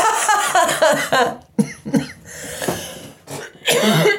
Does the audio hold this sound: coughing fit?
yes